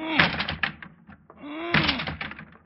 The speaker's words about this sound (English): I'm going to lunge at the door with my shoulder. Go ahead. All right, here I go.